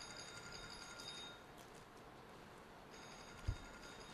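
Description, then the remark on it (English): A telephone rings faintly, one burst of ringing, a pause, then another, with a soft low thump near the end and no one speaking. “Is that someone? Oh, it's a phone.”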